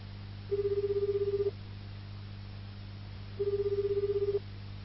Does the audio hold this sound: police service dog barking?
no